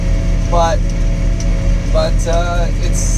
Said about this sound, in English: I'm talking over these tractor sounds that I've dubbed into the audio. So I don't know if I'm yelling loud or not loud enough.